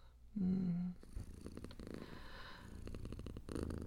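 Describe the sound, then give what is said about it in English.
A person imitates a cat's purr, starting with a short low hum and then settling into a steady, rhythmic rumbling vibration felt deep in the chest that continues for several seconds without any talking. “With a little practice, you can get that deep vibration in your chest, too.”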